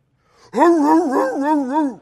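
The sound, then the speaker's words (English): A man preaching a sermon imitates a dog barking with his voice: a single loud, drawn-out cry that wavers up and down in pitch, with nothing else around it. “Now, I'll bark.”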